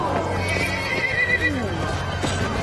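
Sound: horse neighing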